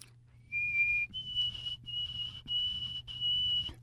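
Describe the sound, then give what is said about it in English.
A person whistles an imitation of a birdsong: a rising note followed by several long, steady high tones separated by short breaks, close and clear over a low background hum. “And as soon as I get my whistle wetted up here, we'll try it a little bit better. And the other possibility goes like this.”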